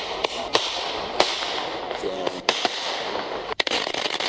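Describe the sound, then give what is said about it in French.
Firecrackers go off in Mali during end-of-year celebrations, in a string of sharp, irregular cracks and pops, some loud, others quicker and lighter, over a steady, busy outdoor background hiss. “Dans un communiqué, les autorités maliennes ont une nouvelle fois interdit l'utilisation des pétards et feux d'artifice durant les fêtes de fin d'année.”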